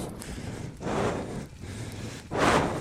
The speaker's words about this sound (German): Mittlerweile regnet es in Strömen.